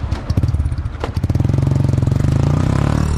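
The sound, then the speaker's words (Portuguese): A motorcycle engine sputters to life and settles into a steady idle with a rapid rhythmic putter, revving slightly as it runs, as a Força Nacional escort rider prepares the bike for a training run through the capital's streets ahead of the World Cup. “Preparar a moto, colocar o capacete, fazer o reconhecimento dos percursos e das condições do trânsito nas ruas da cidade.”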